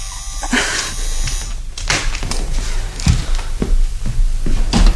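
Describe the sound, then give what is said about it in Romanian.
Handling noise as a door is opened: a rustle of movement followed by a series of sharp clicks and thuds, like a latch and handle being worked, with no voices. “Trebuie să-mi eliberez mâinile ca să deschid ușa.”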